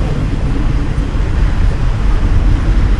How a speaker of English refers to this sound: See that train? You see that train moving? Uh-huh. You see that train moving? Uh-huh, I see it.